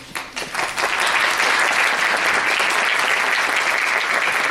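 An audience claps steadily as a professor is invited to give a speech, building quickly in the first second into dense, sustained applause that stays loud and even until the end, with no voices over it.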